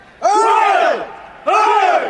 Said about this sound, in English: The Praetorian Guard will present arms! 3 cheers for the Emperor Romulus Augustus!